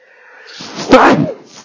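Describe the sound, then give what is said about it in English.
A single harsh cough bursts out after a brief breathy intake, loud and raspy with a rough throaty tail that fades within about half a second. No one speaks. “Sorry, folks. No cough button.”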